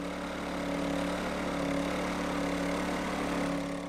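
A generator engine runs steadily, a constant droning hum with strong low tonal bands and a broad mechanical rumble that holds an even loudness throughout, with no voices.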